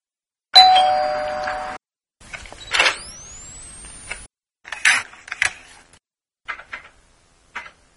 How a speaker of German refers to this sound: Das erste war eine Klingel